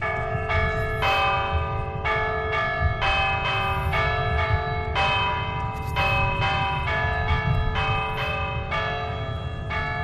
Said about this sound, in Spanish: Y vamos a tener, por lo tanto, tormentas, el toque de campanas llamado Tente Nube.